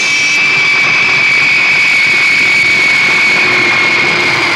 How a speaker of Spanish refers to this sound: El enorme jet particular de Miklos Rogasis, el Albatros, eleva el vuelo desde la pista civil del Cairo.